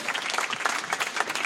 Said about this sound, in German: Und jetzt halten Sie sich fest, zum ersten Mal auf einer Slam-Bühne. Meine Damen und Herren, klatschen Sie in die Hände für